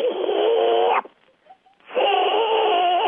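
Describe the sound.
A person imitates a baby barred owl's begging call: two drawn-out, raspy, whining screeches, each about a second long and fairly loud, separated by a brief pause.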